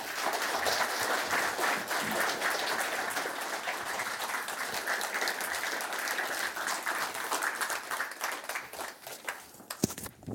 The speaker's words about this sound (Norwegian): Så gi dem applaus alle tre.